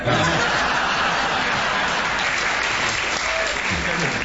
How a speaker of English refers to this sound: Right, so Clement comes in with these apt remarks, which I said at the beginning, which get a round of applause, so I usually say, right, bonus point to Clement.